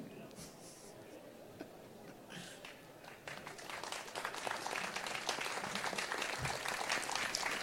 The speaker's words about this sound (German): Fällt es euch schwer, da zu klatschen?